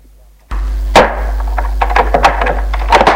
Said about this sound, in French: En ouvrant l'armoire de la chambre, il voit pendu à un cintre le déshabillé rose de Mathilde. Ceci lui fait mal. Il referme la porte.